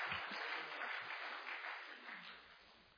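A church audience applauds its members steadily for about three seconds, a dense, even wash of many hands clapping at once that tapers slightly toward the end, with no one speaking over it.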